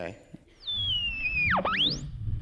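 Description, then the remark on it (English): A radio dial being turned between stations while searching for something to hear: a steady whistle slides gradually downward over hissing static, then swoops sharply low and climbs back up in a quick V-shaped squeal. “Let's tune the dial.”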